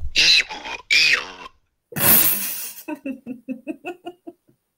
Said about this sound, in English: calling me out on my snorting. On your what? Snorting? When I laugh.